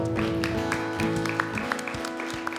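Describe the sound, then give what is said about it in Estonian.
Sparse, half-hearted clapping from an audience thanking God, scattered claps rather than a full round of applause, over a steady sustained keyboard or organ chord. “Okei, see oli väga mage aplaus.”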